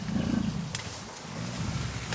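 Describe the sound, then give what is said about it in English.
A wild gorilla vocalizes in the dense Impenetrable Forest with deep, rumbling roar-like calls that rise and fall across about two seconds, loud, with no one speaking. “Before you see the gorillas, the sound that they make”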